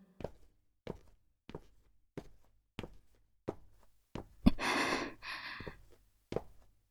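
Footsteps tread at a steady walking pace along a street at night, around ten distinct steps, interrupted midway by a sharp, breathy gasp or sigh. No one speaks.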